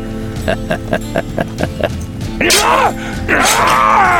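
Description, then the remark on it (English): A man screams in terror while an outlaw attacks him with a bowie knife: two long, loud, anguished cries, preceded by a quick series of rhythmic thuds or strikes. “put her hands over her ears, but she could still hear the terrified screams”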